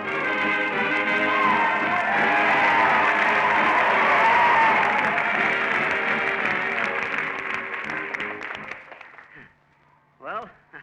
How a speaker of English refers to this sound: Did you hear them cheer when I waved the flag at them? Well, no wonder they cheered.